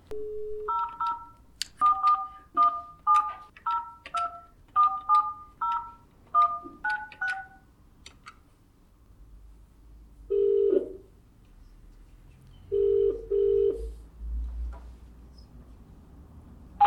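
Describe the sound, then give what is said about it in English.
A quick run of roughly eleven touch-tone beeps as a landline phone number is keyed in, followed after a pause by a few bursts of ringback tone on the line. “I think we'll try to call that first landline, and if there's any problems, maybe we can just ask for his cell phone number.”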